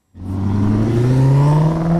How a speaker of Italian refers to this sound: Il verdetto è chiaro. Una faccina triste seguita dalla scritta «Zu laut». Decisamente troppo rumorosa, l'auto di grossa cilindrata passata dal primo dei 5 impianti di controllo previsti in città.